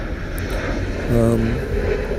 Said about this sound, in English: I think I've covered everything and thrown in a little distraction from jet planes flying overhead.